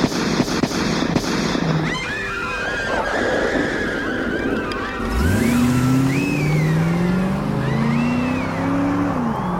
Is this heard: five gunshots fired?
yes